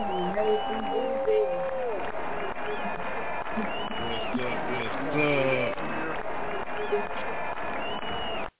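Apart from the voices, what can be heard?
crowd cheering wildly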